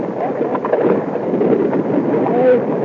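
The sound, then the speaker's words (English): A steady, rushing wash of waves and water against a sailing boat's hull in the South Atlantic near the Windward Islands, with wind sweeping through the rigging. The sound holds an even loudness throughout, with the crew's muffled, indistinct voices as they trim sail mixed faintly into the noise. “And this is the way the waves and the water and the hull, the wind going through the rigging sounded.”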